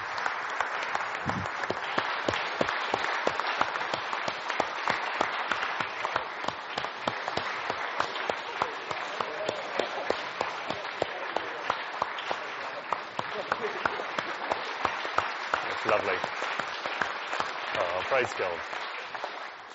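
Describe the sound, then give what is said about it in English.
An audience applauding: many hands clapping in a dense, steady patter that holds at an even, fairly loud level for about twenty seconds without pause. “You can applaud if you like.”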